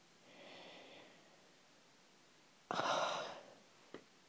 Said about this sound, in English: I take this involuntary gasp and realize that you probably heard it, because it's your words turning me on.